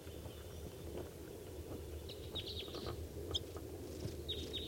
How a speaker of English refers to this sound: And there's a wild bird coming in. Pointed at the wild bird.